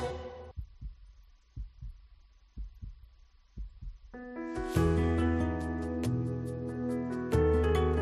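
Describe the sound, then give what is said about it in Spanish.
A slow, steady heartbeat thumps low and deep, about one beat per second, before loud music with sustained tones swells in and takes over the second half. “Pues esos latidos que ustedes han oído son los latidos de un corazón rociero.”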